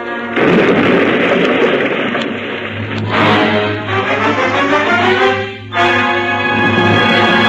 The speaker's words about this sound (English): There's something wrong. Didn't you hear that explosion? Explosion? What explosion?